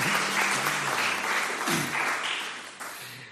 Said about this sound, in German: Und echt toll für alle, an alle Techniker, ein großes Dankeschön, die das ständig umsetzen. Genau, da können wir mal kräftig klatschen.